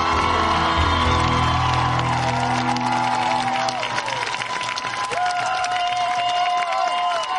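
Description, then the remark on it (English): A large crowd cheers and applauds continuously as Dr. Howard Zinn is introduced, dense clapping mixed with whoops and rising shouts, loud and sustained throughout without any clear speech. “I haven't seen a crowd like this, really, for a very long time.”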